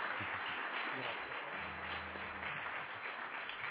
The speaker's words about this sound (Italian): Ah, bene, bene, quell'applauso non mi è piaciuto. Se vogliamo fare un applauso, lo facciamo bene, lo facciamo forte e lo facciamo a Dio.